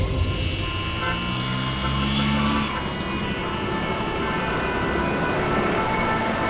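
Several car horns honk over the steady rumble of idling traffic, sustained blasts overlapping in a dense, noisy street traffic jam in Paris.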